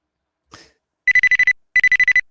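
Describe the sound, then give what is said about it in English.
A computer ringtone for an incoming chat call rings in two quick bursts, each a rapid trill of bright electronic pulses, fairly loud, after a brief soft rustle or cough. No one speaks. “Now it's ringing like crazy over here.”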